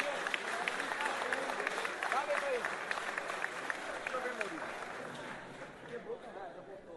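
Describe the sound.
An audience claps steadily in a dense wash of applause, with some crowd chatter and voices mixed in, gradually tapering off toward the end.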